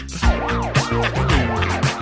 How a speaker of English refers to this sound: Listen to the sirens.